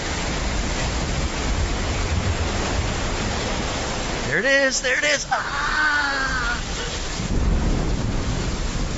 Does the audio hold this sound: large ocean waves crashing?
yes